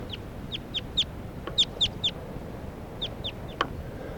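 wild bird calls

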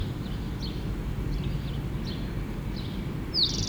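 bird singing

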